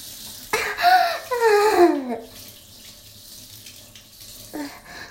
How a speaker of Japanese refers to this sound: ああ、おしっこ出そうや。おしっこ出そう。おしっこするよ。おしっこ出るよ。出る出る出る出る。おしっこ出そう。